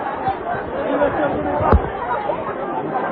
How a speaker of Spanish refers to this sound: Mientras tanto, el paso sigue avanzando ajeno a este murmullo.